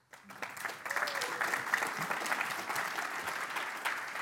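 An audience breaks into sustained applause, a dense, steady patter of many hands clapping that starts abruptly and holds at an even level for several seconds.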